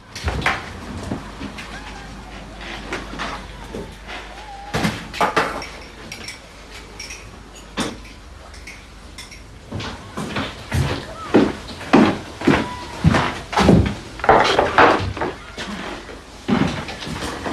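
Cups and a kettle being handled: scattered clinks of china and light knocks and clatters come in an irregular rhythm, growing busier and louder toward the end.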